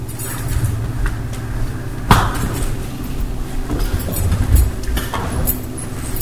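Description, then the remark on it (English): Chairs scrape and bump across a hard floor as they are moved to open up space, amid a busy rumble, with a sharp knock partway through and scattered shuffling clatter throughout. “So can we move these chairs, please? And open the space up right here.”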